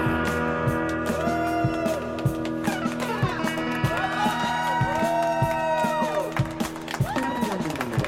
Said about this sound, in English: Okay, now cut to the end. crowd noise. See, you can call lots of echo.